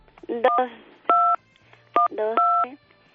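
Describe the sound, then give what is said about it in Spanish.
Telephone keypad tones beep as a phone number is dialed, in a short-then-long pattern, twice: steady, mid-pitched dual-tone chirps, with brief bursts of voices talking between and over them. “Venga, empieza a marcar.”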